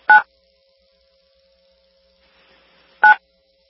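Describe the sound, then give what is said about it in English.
A conference call join chime sounds twice, two short bright electronic two-tone beeps about three seconds apart, with a faint steady hum and near silence between them and no talking. “And actually, I'm just going to mute that chime that rings on and off.”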